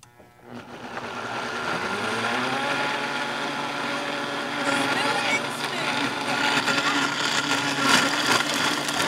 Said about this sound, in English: They fill the blender with watermelon, strawberries, ground cherries, mint, basil, honey, and ice.